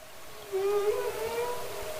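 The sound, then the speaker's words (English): A humpback whale call: a single long, moaning tone with a slight upward sweep and rich overtones, sustained for over a second against a soft, steady underwater hiss. “And the sounds that humpback whales make and other marine mammals make, They're not just for fun.”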